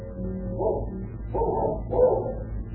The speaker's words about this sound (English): But the only greeting they receive is the fierce barking of a pair of dogs which Gutsweiler and King have seen loping down the road after the two retreating men.